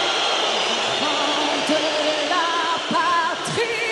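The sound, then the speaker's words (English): A dense, steady roar from the crowd at Paris's Stade de France during a France–Tunisia friendly match, booing and whistling the French national anthem, the Marseillaise, with wavering drawn-out boos underneath and several shrill whistles rising above the noise in the second half, loud throughout. “Those who whistled and booed weren't Tunisians, but mostly French-born second- and third-generation immigrants”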